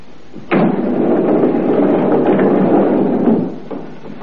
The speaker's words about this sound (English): And unhurriedly, he pushed the sliding slab into the compartment and closed the door marked 12.